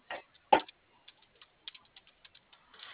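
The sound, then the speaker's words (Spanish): Typing on a keyboard: a quick run of light, irregular key clicks, a couple of louder taps near the start, then softer scattered taps. No voices, with a thin, muffled quality. “Que la van a mandar por teclado.”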